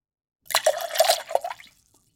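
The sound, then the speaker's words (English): A voice imitates a babbling brook with wet, gurgling mouth noises, a quick burst of bubbly, liquid sputters lasting just over a second, fairly loud. “I'm trying to create a babbling brook sound.”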